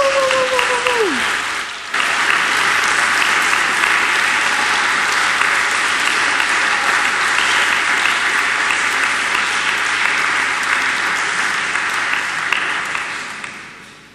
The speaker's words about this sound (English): Round of applause